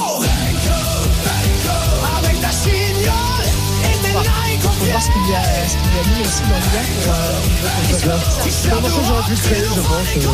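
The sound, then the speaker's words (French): An AI-generated rap song about Bruno Poncet, created by artificial intelligence in exactly 3 minutes at Louis Gerbier's request, plays loudly throughout, with a rapid, rhythmic vocal delivery riding over a steady, heavy bass beat and dense layered backing. “Alors, attends, Louis Gerbier a demandé à l'IA de créer un morceau.”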